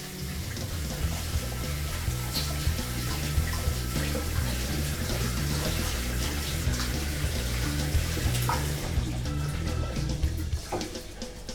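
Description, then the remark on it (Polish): A tap runs in a steady, hissing rush while hands are washed beneath it after kneading dough, the flow holding constant and loud for most of the time before easing off near the end. “Ja teraz ręce umyję, nie spróbuję.”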